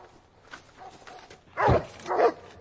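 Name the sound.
dog barking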